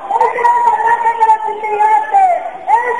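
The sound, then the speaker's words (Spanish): A protest crowd at a demonstration outside shouts and chants in long, sustained cries, many voices blending into a steady, fairly loud wail that swells and dips without pause, heard live through a telephone by people held inside. “Mira, queríamos que escucharais el sonido de la manifestación de fuera, ya que por las paredes no podéis.”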